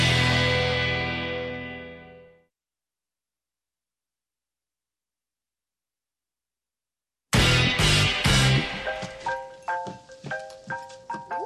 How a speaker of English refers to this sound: Phone call. Ring-a-ding-dang.